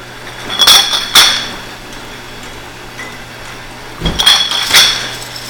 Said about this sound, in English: Then the second head will come down, fill it full of the carbonated water, and then put the cap on, which happens with a big clang.